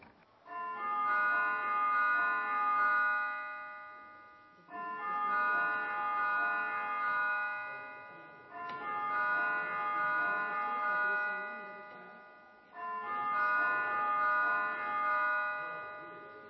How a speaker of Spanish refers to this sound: Voy a tocar la campana para que también los servicios de informática estén atentos y puedan lanzar el mensaje.